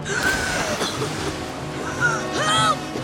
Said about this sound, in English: Underwater, his legs flail, his body goes hurtling down raging rapids.